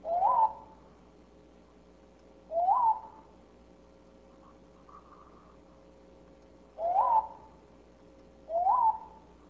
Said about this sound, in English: Okay, and this is how they sound. Okay, so this is the natural chirp. The main. Okay, they are pretty similar to each other.